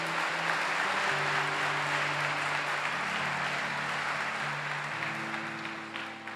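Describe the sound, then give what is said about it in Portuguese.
A crowd gives strong, steady applause to God for about six seconds, a dense wash of clapping that eases slightly at the end, with low sustained keyboard notes holding underneath. “Quem crê pode dar uma forte salva de palmas a Deus?”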